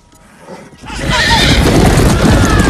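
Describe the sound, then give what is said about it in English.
Horses whinny over a steady clatter of hooves that swells in quickly and stays loud, with a busy, crowded rumble underneath, as horses ride through a town. “Horses ride through the town.”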